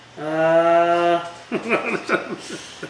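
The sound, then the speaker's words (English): A single drawn-out, steady cow moo lasting about a second, loud, followed by a moment of quiet and then people talking. “Kevin the Cows, ladies and gentlemen.”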